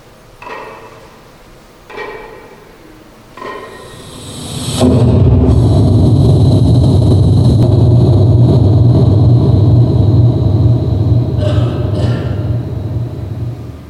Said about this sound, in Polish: I tu można zobaczyć, jak wybuchał metan, oczywiście w bardzo dużym przybliżeniu.